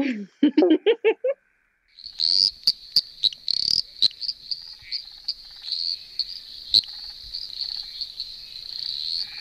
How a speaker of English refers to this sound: So that is a very tiny little frog, the eastern dwarf tree frog, and it's really loud for how big it is. It's less than 2 centimetres in body length, green, tends to live in ponds and reedy places, things like that.